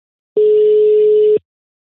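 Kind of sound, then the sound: signal or alarm, telephone call ringing tone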